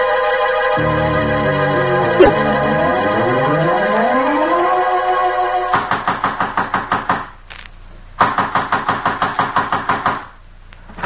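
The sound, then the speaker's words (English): Loud, rapid pounding on a door comes in two hard bursts of fast, steady blows with a short pause between, following a passage of sustained tonal music with a falling glide. “Well, are you trying to break down the door?”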